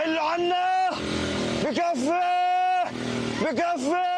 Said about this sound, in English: Palestinians trying to flee the area clogging a coastal road.